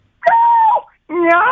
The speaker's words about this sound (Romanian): La ce animal te-ai oprit? Acum urmează pisicuța.